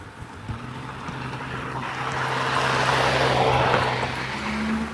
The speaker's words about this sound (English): Thank you for sharing, sir. I'm sure the rest of the neighborhood appreciates the manly roar of your truck.